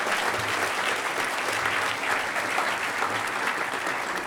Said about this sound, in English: So everybody, a huge round of applause